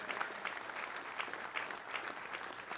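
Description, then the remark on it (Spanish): A church audience applauds steadily in praise of God, a dense wash of many hands clapping at once with no pauses, filling the whole stretch without any voices on top. “Dale un aplauso al Rey.”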